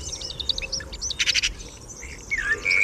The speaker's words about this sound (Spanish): Y escuchamos a un mirlo que está cantando posado en el tejado junto a una ermita, la ermita de Mosén Rubí.